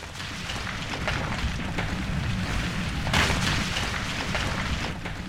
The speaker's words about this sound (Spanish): «¿Qué es ese ruido?», se preguntó molesto el coyote. El abuelo Piedra había empezado a moverse. La enorme roca se movía hacia él.